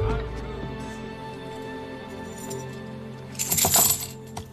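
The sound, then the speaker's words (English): Metallic ringing of coins spinning and rolling, then a bright jingling clatter near the end as more coins drop and scatter, with no voices. “Don't let those coins roll away.”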